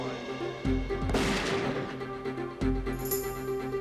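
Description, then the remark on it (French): A gun fires three times at uneven intervals during a test firing to photograph the projectile, each shot a loud, sharp blast followed by a rumbling decay, with the middle one the heaviest and longest. “Après chaque détonation, Reeves éloignait le microphone du canon de quelques centimètres.”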